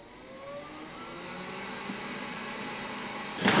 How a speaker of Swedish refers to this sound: Här kommer en liten vit dammsugarrobot ut då. Den är röststyrd och den sköter sig själv. Alltså, så den kan ju städa hela huset här. Den går från rum till rum.